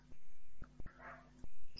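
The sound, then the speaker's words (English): A dog barks a few times, short faint yaps spaced irregularly over a quiet background. “Again you can hear, no? The barking sound.”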